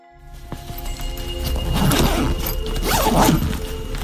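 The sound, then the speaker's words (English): Rustling of bags being quickly packed by a family leaving their Seattle, Washington home, with a couple of quick zipper pulls rising over the fabric noise, busy and hurried, no voices. “That's the rustling of Chris Ingalls and his family quickly packing their bags, zipping them up”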